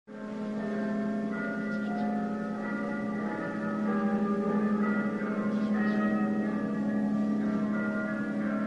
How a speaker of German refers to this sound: Es ist Christi Himmelfahrt. In allen Tälern läuten die Glocken.